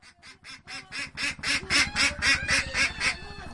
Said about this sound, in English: gathering eggs from the ducks that live in what is called a coop on her floating farm. The farm is made of bamboo plants and empty oil containers or drums. It is attached to the bank of a river near the village of Charbungara.